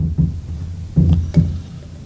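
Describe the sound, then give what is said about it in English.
Hot water, boiled a few minutes earlier, pours into a ceramic mug for hot chocolate in a few uneven gulps, fairly loud, with low sloshing splashes and no voices. “I have some hot chocolate here, some hot water that I just boiled a few minutes ago.”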